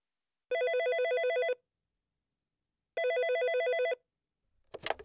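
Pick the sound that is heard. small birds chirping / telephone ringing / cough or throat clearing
telephone ringing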